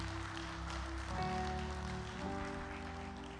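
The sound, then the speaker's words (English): An audience at Carpenters Church International applauds the absent pastor with steady, dense hand clapping that holds at an even level throughout, while sustained musical tones shift pitch underneath. No one speaks. “Well, let's give them a big hand clap this morning and let them know we love them and we miss them.”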